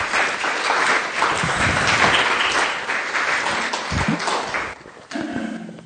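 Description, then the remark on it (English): A crowd claps steadily and fairly loudly for several seconds for a group of people going back to their seats, a dense patter of many hands that thins out near the end as a low murmur of voices comes in. “Can we give these guys a round of applause and you can go back to your seats?”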